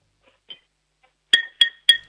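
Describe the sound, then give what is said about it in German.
A Radino ceramic mug is clinked with a spoon like a glass: one faint tap, then three quick, evenly spaced clinks with a bright, briefly ringing tone, no voices. “Das klingt natürlich nicht gleich wie ein Glas, aber immerhin.”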